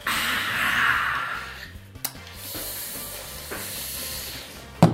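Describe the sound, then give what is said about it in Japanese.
A fizzy hiss of carbonation rises near the start as Suntory Tennensui sparkling natural water is drunk from a bottle, followed by a few soft clicks, a gulp-like thud and a sharp clack at the end. “今サントリーの天然水のスパークリング飲んでます。”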